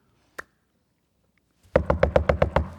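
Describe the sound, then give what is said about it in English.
A single light tap, a pause, then a quick run of about seven loud, evenly spaced, heavy knocks on the door of a gate, with no one speaking. “Verse 13, when he knocked at the door of the gate, a servant girl recognizes, verse 14, Peter's voice.”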